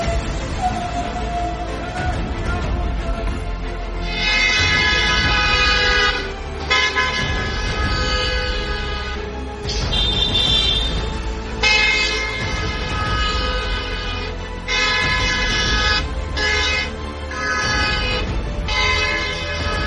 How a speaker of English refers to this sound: following him to his house, honking.